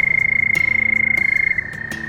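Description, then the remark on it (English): A Houston toad in Texas calls with a steady, high-pitched musical trill, sustained without a break and fairly loud, with a few soft clicks and faint background noise beneath it. “So the Houston Toad is pretty remarkable.”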